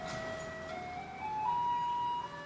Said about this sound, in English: So it's coming up now to 2 o'clock. And let's see if the alarm sounds off.